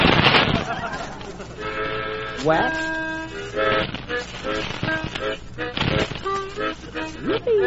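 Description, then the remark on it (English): A voice imitates horses with a string of tooting, whinny-like cries that slide up and down in pitch, loud and rough, with a short spoken word in between. “What's that? That's the horses.”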